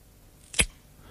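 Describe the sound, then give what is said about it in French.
A single crisp crack of an apple being snapped apart, short, sharp and fairly loud against an otherwise quiet background. “C'est-à-dire que c'est une pomme qui est cassée.”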